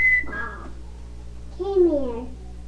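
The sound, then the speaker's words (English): A brief, high, steady whistle rings out at the start, whistling to call a pet named Tiger, followed by soft vocal sounds and a longer, falling voiced call. “Oh, I thought you were whistling.”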